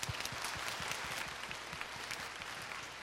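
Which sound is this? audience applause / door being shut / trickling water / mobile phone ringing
audience applause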